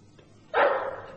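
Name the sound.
dog barking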